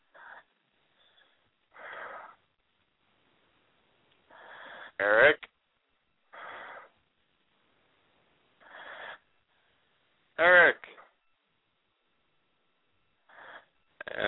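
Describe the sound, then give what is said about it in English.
Heavy, rasping breaths repeat in a slow rhythm, each inhale and exhale wheezing, with two sharper, louder gusts of breath standing out between them. “sounds like I'm talking to Darth Vader.”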